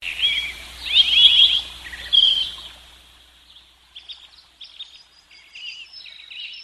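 Birds chirp and twitter in a bright, busy burst for a few seconds, then lighter, quieter chirps continue in short bursts against a faint low background hum.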